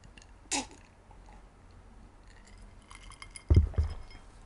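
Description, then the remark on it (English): A glass clinks once, then after a quiet pause come a few more light clinks with soft, low gulping sounds as someone drinks. No one speaks. “Drinking break.”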